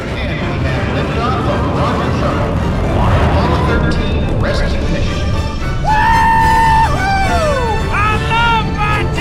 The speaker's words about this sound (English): On board, Mater screams.